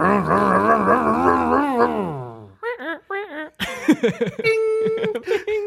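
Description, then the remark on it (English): A voice imitates a car engine: a loud, buzzing, wavering drone that revs and then winds down in pitch, followed by short sputtering vocal bursts and laughter-like noises. “I want to redo our engine noise.”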